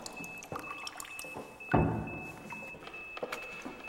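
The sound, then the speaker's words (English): An instrument is pulled up out of water with a brief sloshing splash, surrounded by scattered small drips and clicks, with a faint steady high whine in the background. “Joseph takes his instrument out of the water.”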